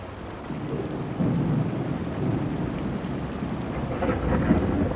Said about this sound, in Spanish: Y más truenos y vientos cayeron sobre la tierra.